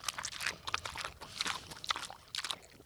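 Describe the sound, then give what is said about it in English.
Pigs on a farm crunch and chomp on leftover produce such as bagels, pineapples and carrots, with wet chewing and bites in irregular bursts, soft grunts and shuffling steps mixed in. “Back at the farm, the resident pigs happily clean up whatever produce isn't fit for the chickens.”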